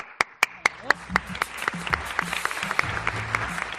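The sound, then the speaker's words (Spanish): An audience in Albacete breaks into applause to bid farewell to Santiago Cabañero, president of the Provincial Council, starting with a few sharp, evenly spaced claps that quickly swell into a dense, steady patter of many hands clapping together. “Pues despedimos al presidente de la Diputación Provincial, a Santiago Cabañero, con este aplauso.”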